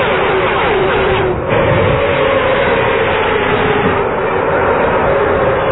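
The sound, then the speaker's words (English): Cars roar past the microphone, going from one side to the other, in a loud, continuous rush of engine and road noise, with a brief dip partway through before the rumbling surge resumes. No voices are heard. “Man, the sounds are so great when they have the cars go by the microphone.”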